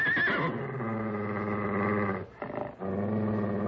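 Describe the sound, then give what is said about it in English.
A stallion neighs loudly in one long, harmonic call. It opens with a quavering high whinny, settles into a steady, rough tone, briefly breaks off, then resumes. No one speaks. “The stallion, he's coming in for the kill.”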